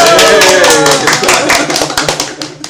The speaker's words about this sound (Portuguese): Então, uma salva de palmas para a vovó do Galeão.